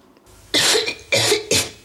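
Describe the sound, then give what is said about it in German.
A short cough in three quick bursts, loud and breathy, heard alone against a quiet background with no talking. “Wir kommen zu Huster Nummer 6.”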